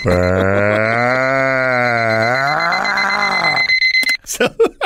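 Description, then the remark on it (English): A voice imitates an alarm slowly starting up: one long, loud, droning vocal tone that swells and wavers for about four seconds before breaking off into brief talking. “You know, man, it's like when bombing feels like, man, when you set your alarm to slowly start.”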